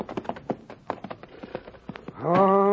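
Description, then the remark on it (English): Horses' hooves clip-clop in a quick, uneven rhythm of many overlapping taps as riders arrive, ending with a loud, drawn-out neigh; no one speaks. “Hey, look at all them horses at the hitching rail there.”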